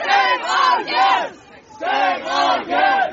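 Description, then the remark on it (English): A crowd of protesters blocking the bus carrying a team away from their hotel on the Gold Coast after the Women's Asian Cup shouts in loud, rhythmic unison, chanting about six strong bursts in two groups of three with a brief pause between them. “When it came time to leave the tournament, protesters blocked the bus carrying the team away from their hotel on the Gold Coast.”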